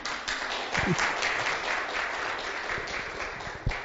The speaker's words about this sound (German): Vielen lieben Dank, dass du hier mitgeholfen hast. Gib dir doch mal einen kräftigen Applaus.